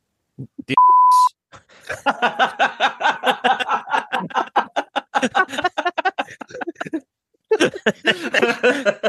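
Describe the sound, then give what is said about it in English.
A single loud, steady censor bleep lasting about half a second cuts in near the start over a swear word, followed by rhythmic bursts of laughter and voices talking. “Gonna beep that out.”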